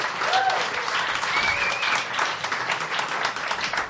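An audience applauding steadily for about four seconds, a dense, even patter of many hands clapping with a few brief whistles or cheers rising above it.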